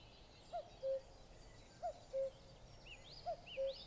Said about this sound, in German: Ah, ein typischer Bewohner des Waldes. Es ist ein Vogel, der genauso heißt, wie er klingt. Kuckuck, Kuckuck, ruft's aus dem Wald. Genau, der Kuckuck.